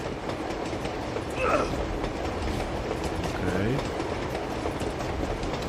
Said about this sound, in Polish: Okej. Lokomotywa.